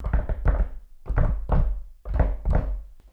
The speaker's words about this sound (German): Da hat es an der Tür geklopft.